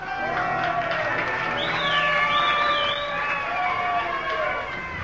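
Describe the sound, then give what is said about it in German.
A crowd applauds and cheers steadily throughout for a star performer, with loud shouts and a couple of rising, high-pitched whistles cutting through the dense clapping. “Bitte Applaus für unseren Star”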